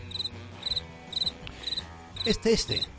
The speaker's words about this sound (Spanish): Un grillo de los de toda la vida, de los que hacen este ruidito tan característico.